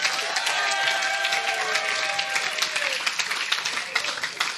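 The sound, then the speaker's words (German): An audience applauds steadily for the Bible passage Philippians 3, verse 8, a dense wash of many hands clapping at a constant loudness for several seconds, with a few faint voices and cheers rising through it. “Und vorher will ich mal einen fetten Applaus von allen, die die Bibel feiern, für Philipper 3, Vers 8.”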